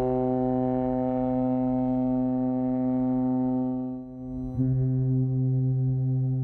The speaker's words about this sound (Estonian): Nii kõlasid Tallinki laevade Baltic Queen, Victoria esimene ja Silja Euroopa udupasunad 30. märtsi õhtul.